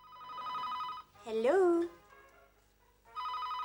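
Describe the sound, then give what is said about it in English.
A telephone rings in two steady electronic bursts, broken by a brief voiced exclamation in between; the ringing is clear. “Have you thought of teaching a fish to answer your phones?”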